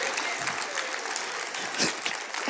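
An audience at a service applauding: a dense, steady wash of many hands clapping at once, fairly loud and even throughout, with one slightly louder swell near the end and no voices.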